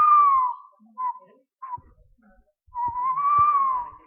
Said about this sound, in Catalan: El gamarús, que el posen a totes les pel·lícules de por. Aquest udol, gamarús. I que cria aquí al vell mig de la riera i que se sent al vell mig de la riera en els forats grans dels plàtans.